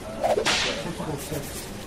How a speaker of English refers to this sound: That whip crack was not in the ambient noise.